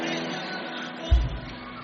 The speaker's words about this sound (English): If you are shouting amen, shout the loudest amen. Amen.